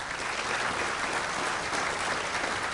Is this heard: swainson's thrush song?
no